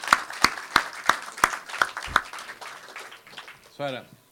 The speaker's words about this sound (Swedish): Han tolkar till engelska och fick hoppa in på kort varsel, och han är en hjälte. En applåd.